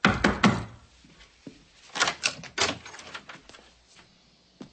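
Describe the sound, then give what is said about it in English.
A door being locked: a quick cluster of sharp clicks and knocks, a brief pause, then a few more rattling clicks and a final soft thunk, with no voices. “Now you're locking your door?”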